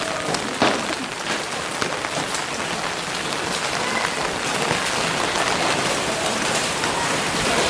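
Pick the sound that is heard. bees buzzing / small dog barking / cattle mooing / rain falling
rain falling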